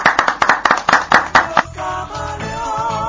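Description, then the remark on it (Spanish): A short burst of audience applause on the radio show Café Prensa, loud, sharp claps in a quick steady rhythm for about a second and a half, then stops as a tonal musical tune comes in. “Un aplauso, muy bueno, muy bueno.”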